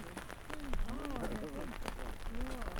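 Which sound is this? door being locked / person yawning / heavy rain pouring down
heavy rain pouring down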